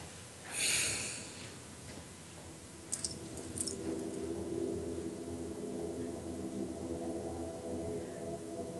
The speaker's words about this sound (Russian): Вдох, выдох, глубокий вдох, полный выдох и немного задержим дыхание.